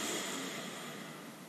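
A steady, airy rush of breath drawn in through the mouth during a guided breathing exercise, soft, holding evenly for over a second with no voices.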